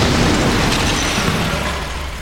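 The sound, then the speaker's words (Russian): A loud, booming explosion of an incoming shell, with a dense, sustained rumble that fills the whole range and slowly eases off, with no talking over it. “Какой-то снаряд, видимо, влетел.”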